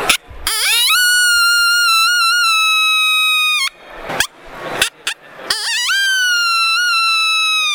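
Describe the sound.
A caller's voice imitates a lone coyote howl: a long, high, rising wail held steady for several seconds, then a few short broken yips, then another howl sweeping upward. Loud, with no other sounds.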